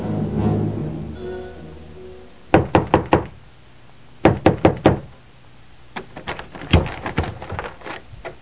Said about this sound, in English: Early one morning, he came knocking at the door of Chaim the Shamus.